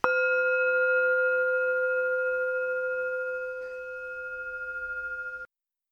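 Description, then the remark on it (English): A single tap on a gong rings out in clear, steady metallic tones that hold for about five seconds with a gentle wavering shimmer before cutting off abruptly. No voices. “Okay, I'll tap my gong and we'll come back with The Conqueror Worm by Edgar Allan Poe.”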